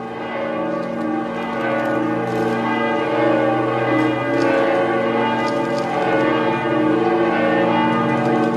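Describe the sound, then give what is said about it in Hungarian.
The ancient bell of a papal basilica dedicated to the Mother of God rings steadily as pilgrims take their first steps of the holy year, its deep overlapping tones humming and sustaining without pause, loud and resonant with a long lingering decay and no voices present. “I primi passi da pellegrini dell'anno santo in questa basilica papale dedicata alla Madre di Dio sono stati accompagnati dal suono dell'antica campana.”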